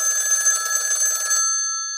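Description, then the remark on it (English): A telephone bell rings loudly in one rapid metallic trill lasting over a second, then stops and leaves a ringing tone that slowly fades. No one speaks. “And at that point, literally a couple seconds later after feeling that way, the phone rang.”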